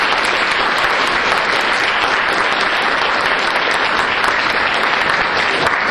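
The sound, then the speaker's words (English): An audience applauds two speakers, Professor Leiter and Judge Posner, steadily, a dense, loud wash of many hands clapping that holds at an even level for about six seconds, with no voices rising above it. “If you'll give them a big round of applause, Professor Leiter is going to start us off.”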